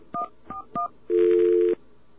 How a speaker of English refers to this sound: You just dial 700, then 4141.